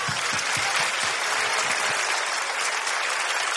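Steady audience applause fills the space, a dense wash of many hands clapping at close range, sustained and fairly loud with no voices standing out.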